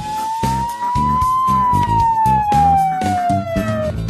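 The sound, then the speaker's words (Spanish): An ambulance siren wails in one long, slow rising and falling tone, loud, over a steady thumping rhythmic beat with no talking, in an Ingenio Brokers prepaid medicine advertisement for ambulance transfer. “Traslado en ambulancia sin pago de bono.”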